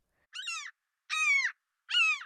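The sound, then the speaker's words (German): A raven croaks three times, harsh and throaty, each call about a third of a second with even pauses between. The calls are clear, with no other sounds. “Ein Rabe hört sich so an.”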